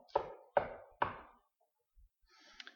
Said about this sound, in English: He's standing at the door. And he's knocking.